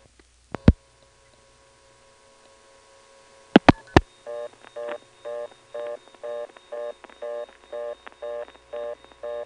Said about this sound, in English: In the meantime, let's try simply picking up the phone and dialing 1 plus a long-distance number, not directory assistance, and see what happens.